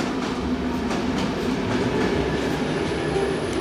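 A train on the Pardubice–Liberec main line at Nedvězí station rumbles steadily, its wheels clattering over the rails beneath a thin, high brake squeal as it slows to a stop. No voices are heard.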